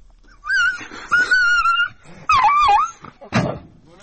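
A dog cries out in distress with several high, wavering whines and yelps in quick succession, loud, ending in a sharp harsh yelp. The dog is being abused by hunters who appear to own it, in the village of Gonila, Kalaleh county, Golestan province, Iran.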